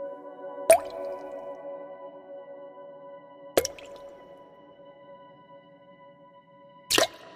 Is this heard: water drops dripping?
yes